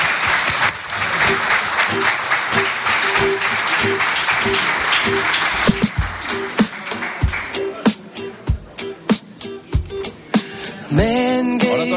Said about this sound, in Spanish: Un aplauso, Gonzalo.